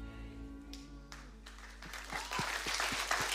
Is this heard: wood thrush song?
no